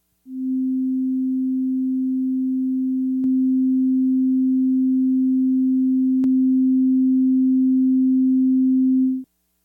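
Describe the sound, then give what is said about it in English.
A steady, low sine test tone holds for about nine seconds while slowly drifting out of phase, broken only by two faint clicks midway; no voices. “It'll start kind of near the center and then get farther out of phase and farther out of phase”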